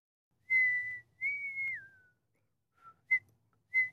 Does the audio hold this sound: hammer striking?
no